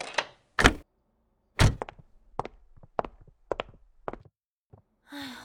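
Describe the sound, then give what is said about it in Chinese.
A door being opened by someone with a drunk companion, who then switches on the light: a tired sigh, two heavy thuds, then a quick run of sharp clicks and knocks like a latch working, ending in a breathy exhale. “好，我知道你千杯不醉，雪花不飘你不飘，青岛不倒你不倒，所以你现在能不能好好站一会儿，让我去开门开灯？”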